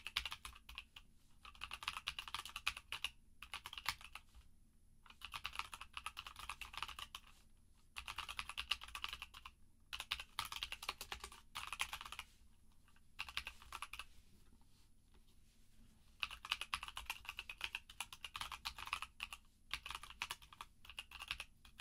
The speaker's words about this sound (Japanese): うるさくない？それならよかった。結構打つの早くてカタカタうるさいかも。ゆっくり打ってみるか。